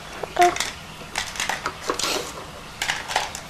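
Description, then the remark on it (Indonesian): Light plastic dishes clatter and knock together in irregular bursts, like toy plates and bowls being handled during play, with a brief faint voice near the start. “Piringnya mana? Itu piringnya. Piring atau mangkok? Piring.”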